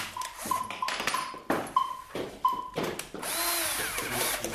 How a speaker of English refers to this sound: A violin improvised from two leeks, a flute made by drilling into a cucumber, a sort of trumpet carved from a pumpkin.